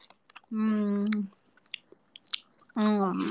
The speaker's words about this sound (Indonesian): Ya itu dia kan makannya.